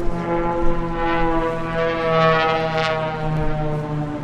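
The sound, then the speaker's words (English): A steady, loud drone of aircraft engines at the Oshkosh airshow holds for about four seconds, a rich buzzing tone with many layered harmonics and slight swells in volume. “From sunup to sundown, aircraft engines are rarely silent at Oshkosh.”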